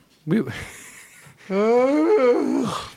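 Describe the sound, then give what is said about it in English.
A short breathy vocal onset gives way to a long, drawn-out voiced yawn with a stretch that slides in pitch and then trails off, fairly loud, with no words spoken. “No, but it's also the yawn stretch like that.”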